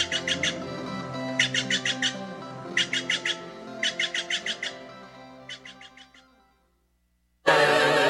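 Steller's jay calls: about six loud bursts of harsh, rasping notes, each a rapid run of several squawks, with no talking. The calls stop and quiet follows.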